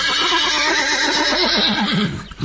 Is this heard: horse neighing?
yes